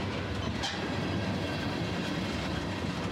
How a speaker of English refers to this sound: pulling his socks and boots back on and listening to the gentle screech of the wheels as the train pulled into station.